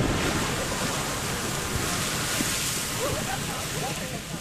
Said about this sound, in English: Why did Mr. Langford call this geyser Old Faithful? Ooh, I know. Because it's so reliable. Every 60 to 70 minutes, hot water shoots up from this spot.